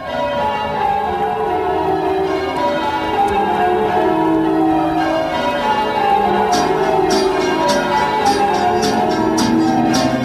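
Bells ring steadily with rich, overlapping tones that hang in the air, loud. Partway through, bright rhythmic metallic strikes join in. No one speaks.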